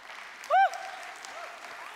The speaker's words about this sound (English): If you're not clapping, you missed it, so I'll give it one more pass.